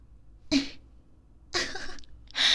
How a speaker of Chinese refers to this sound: 竟然咳嗽了。是觉得痛苦吗？